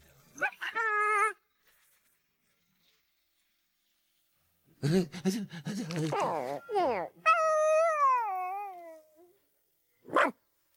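A dog lets out a high whine, then after a pause a burst of sharp barks and yelps, a long falling whimper, and one last short bark, all fairly loud.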